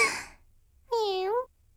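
A soft, breathy exhale is followed after a short pause by a single drawn-out cat meow, clear, with a steady tone that dips slightly at the end.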